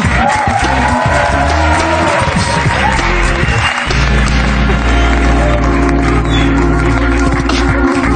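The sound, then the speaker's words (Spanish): A crowd applauds loudly and steadily for about eight seconds as a farewell to a guest at the end of a programme, a dense wash of clapping with scattered cheers and whoops, and a low hum running underneath in the second half. “Vale, pues un aplauso”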